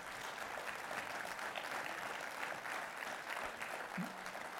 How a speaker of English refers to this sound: Can I give the Lord, y'all give the Lord a hand clap of praise?